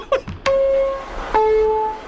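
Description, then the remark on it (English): A metro-style sound effect played from a sound effects machine: a quick clatter of short blips, then two sustained electronic chime tones, the second pitched lower, ringing out loud with no talking. “Metro guy having his sound effects machine.”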